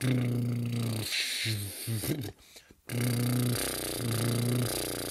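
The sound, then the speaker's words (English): A voiced lip trill, done as a vocal warm-up for the lips, buzzes steadily on a low sung pitch, then breaks into a few short bursts, pauses briefly, and resumes as a longer trill stepping between notes. “We can also just do this to warm up the lips a bit, lip trill.”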